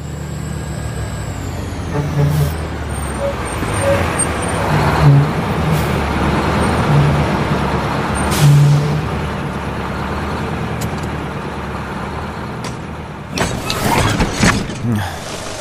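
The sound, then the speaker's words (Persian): A large vehicle rumbles steadily, its engine droning throughout, then sharp bursts of hissing air brakes break out near the end. “لطفاً بگین که فقط تا فرودگاه سوار این ماشین میشیم.”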